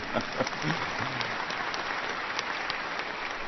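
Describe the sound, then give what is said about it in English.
A room full of people claps steadily, a dense wash of applause with sharp hand-slap transients, joined briefly by a few scattered voices at the start before settling into even clapping. “Yeah, you can clap if you want.”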